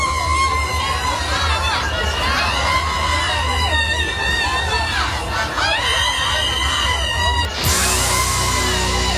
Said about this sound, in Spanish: Sí, como aquella señora que en una manifestación en Madrid se hacía oír sin necesidad de ningún megáfono.